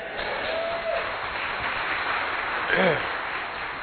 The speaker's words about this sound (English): over half of them were clapping, so that's nice to have a majority.